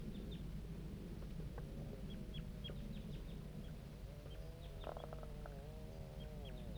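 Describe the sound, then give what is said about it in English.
Juvenile birds, including the individuals J8 and 2-7, call repeatedly in response to letter 5-3: many short, high chirps peep at an irregular rhythm, joined at times by lower, wavering harmonic calls. A steady low rumble runs underneath, and no one speaks. “Start recording the juvenile birds responding to letter 5-3.”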